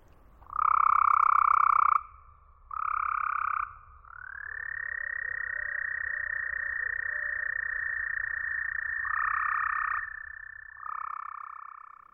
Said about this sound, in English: But let's listen to the same recording after it's been equalized to simulate what the toads hear.